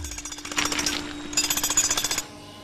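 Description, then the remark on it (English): A pneumatic drill hammers in rapid, rhythmic bursts, two sustained runs of harsh percussive rattling with a brief pause between, loud, then stopping abruptly. “A pneumatic drill.”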